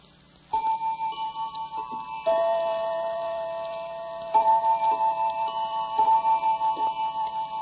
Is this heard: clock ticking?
yes